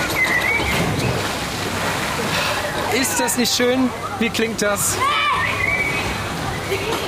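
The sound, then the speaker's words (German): Continuous splashing and lively crowd bustle of a busy outdoor swimming pool on the opening day of the open-air pool season, with shouts throughout and a voice briefly talking over the noise. “Hört sich nach Sprungbrettern, Wasserrutschen, Stieleis, Wasserbomben an. Ganz, ganz, ganz viel Planschspaß.”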